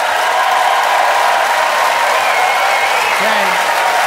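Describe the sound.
An audience at the Neptune Theater applauds loudly and steadily to vote for a speech, a dense wash of clapping from many hands that holds at the same level for about four seconds, with some crowd voices mixed in.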